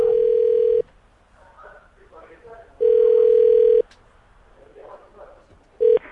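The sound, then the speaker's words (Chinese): A phone line rings on the caller's end during a call to a home phone, with steady one-second ringback tones repeating about every two seconds, loud and clear, while faint background chatter murmurs in the gaps. “打给徐太太，希望家里的电话有人接”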